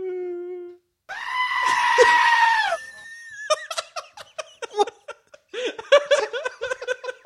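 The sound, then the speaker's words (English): A goat lets out a long, loud, strained scream, then breaks into a rapid series of choppy bleating cries that sound almost like frantic laughter, alone with no talking. “I don't know if anybody recognizes that scream. That's actually a goat.”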